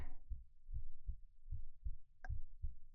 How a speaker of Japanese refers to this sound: ああ、うん、なんだかドキドキしちゃって心臓バクバクしてる。そんなに聞こえる？